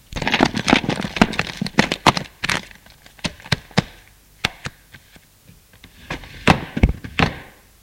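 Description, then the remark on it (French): An office desk drawer is opened, a black bag taken out, and the drawer shut, amid a flurry of sharp wooden knocks, clicks and thunks, irregular, with no one speaking. “Ouvre le tiroir du bureau. Prend la sacoche noire de la grossette et referme le tiroir.”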